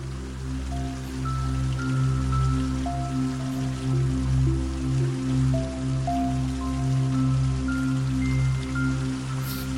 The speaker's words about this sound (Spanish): Vemos no muy lejos una fuente preciosa de piedra antigua que emana agua relajadamente.